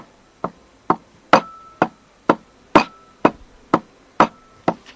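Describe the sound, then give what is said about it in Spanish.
Flamenco hand claps (palmas) in a sevillanas pattern: about ten sharp, crisp claps at a steady pace, with a few louder accented strikes. No talking. “la diferencia entre palmas por sevillanas y por bulerías,”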